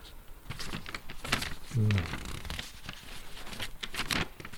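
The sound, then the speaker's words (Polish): Thin, crisp bible-like paper pages of an early 20th-century Baedeker travel guidebook with old maps and city plans rustle and flutter as they are turned and handled, with quick crinkling bursts and a brief low murmur partway through. “A to zupełnie inny papier. No bardzo taki biblijny teraz to się mówiło.”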